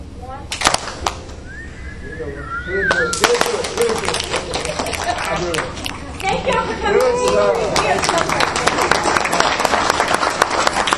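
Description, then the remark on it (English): A group does a 'firework' cheer: hands clapped together in a rising burst, then girls snapping and boys clapping their way down in a dense patter of scattered snaps and claps that keeps going steadily, with faint excited chatter and squeals underneath. “So, to do a firework, first you clap your hands together, you go up in the air, you explode, and then you clap your girls snap their way down, and then boys clap their way down.”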